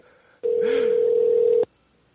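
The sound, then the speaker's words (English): A telephone rings once, a steady electronic tone holding for just over a second, loud, then cutting off into quiet. No one speaks. “The murderer is looking at the phone ring, trying to decide whether he should answer.”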